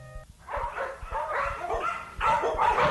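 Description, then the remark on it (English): A dog barks over and over in a pet shop in ragged, overlapping bursts, loud, with a few higher yips mixed in and soft thumping underneath. “Here's the pet shop. They're buying a dog.”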